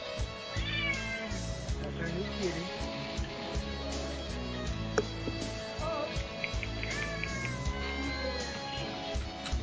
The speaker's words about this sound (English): Yeah, if you go to scroll all the way down to my Facebook page and go to older posts, there's a video there that says Hob says meow to you all, and I can actually play that on the air here.